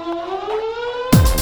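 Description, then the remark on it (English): A warning siren wails with a steady, slowly rising tone, then is cut off abruptly by a loud burst of noise near the end. “What if a warning siren sounds?”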